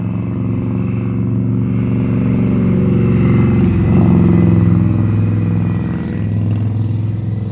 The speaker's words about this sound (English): Let the loud motorcycle go by.